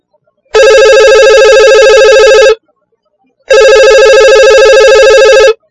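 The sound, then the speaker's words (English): A telephone in a travel agency office rings twice, each loud electronic ring lasting about two seconds with a steady buzzing tone, separated by a short silent pause. “Could you please answer the phone?”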